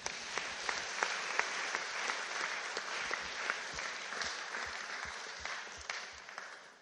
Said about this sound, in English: Oh, biggest thank you that was the main thing I wanted to say is I just want to thank the Lord so much for what he's done in this church. Should we give him a clap?